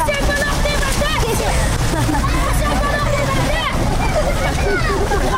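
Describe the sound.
Steady splashing water from a restored fountain on Pashtunistan Road in Kabul, Afghanistan, where young people take souvenir photos, runs continuously beneath a loud, busy crowd of many people chatting at once, with overlapping voices throughout.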